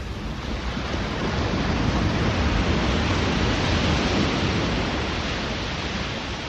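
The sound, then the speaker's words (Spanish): Sea waves wash onto the shore of a beach in a steady, full rush of surf, fairly loud, with no distinct pauses between breakers and no voices present. “Entonces, me puse a oír el mar.”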